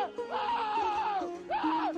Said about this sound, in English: That's somebody screaming after looking into the sun.